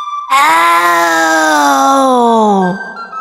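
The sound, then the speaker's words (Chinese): A child's voice lets out one long, loud imitation of a lion's roar, a sustained raspy cry of about two seconds whose pitch slowly sinks before it cuts off. “…开始狮子吼，越吼越大声。”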